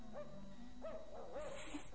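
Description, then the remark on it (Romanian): A small female dog barks, three short, tonal yelps spaced out over a couple of seconds against a faint, steady background hush, with no one talking. “Auzi? Un lătrat.”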